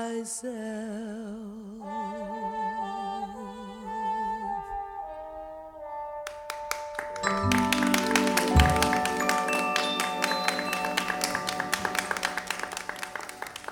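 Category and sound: crowd, studio audience applause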